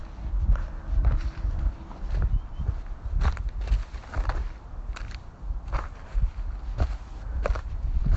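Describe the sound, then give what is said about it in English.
Steady footsteps crunch through dry dead bark and leaves while walking down a slippery drive when it hasn't rained, each step a sharp crackling burst in an even walking rhythm, with a continuous low rumble underneath and no talking. “You can hear the dryness, just all this dead bark and leaves.”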